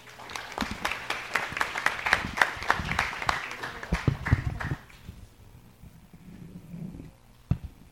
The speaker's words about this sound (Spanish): Y sin más palabras, doy paso a nuestros queridos e importantes invitados. Un aplauso para ellos.